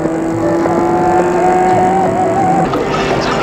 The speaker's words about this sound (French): Un camion passe pour mouiller la chaussée et ça donne de la fumée, de vapeur, etc. etc.